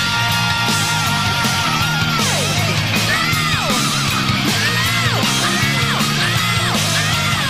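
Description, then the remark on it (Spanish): A Croatian singer's wild, sustained scream rises and falls in repeated swooping wails over a loud, dense metal backing of distorted guitars and pounding drums, continuous and forceful throughout. “Dejándose la piel y las cuerdas vocales. Con un grito salvaje.”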